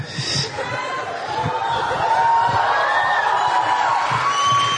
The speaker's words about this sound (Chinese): 感谢大家的热情掌声，谢谢。我感受到了你们的热情。